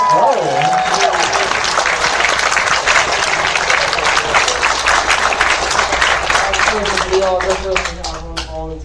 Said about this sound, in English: A round of applause for Sven.